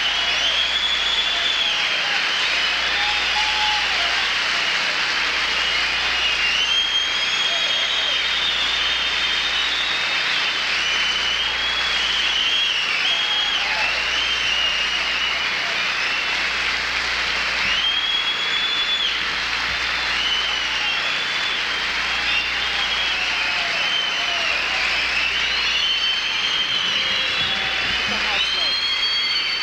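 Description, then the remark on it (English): A large audience applauds George Carlin steadily for about half a minute at the end of his show, a loud, dense wash of clapping that holds at an even level without breaking, with crowd noise mixed in. “Let's give George Carlin a great hand for coming out of the hospital to do this show tonight.”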